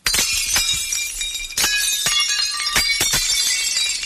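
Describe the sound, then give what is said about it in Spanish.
Plates being smashed on the street by hospitality business owners protesting the Junta's pandemic restrictions, in front of the Junta delegation, with a steady clatter of breaking crockery punctuated by several loud, sharp crashes and the bright, ringing tinkle of shards scattering, with no voices. “Tenemos más platos rotos en la calle.”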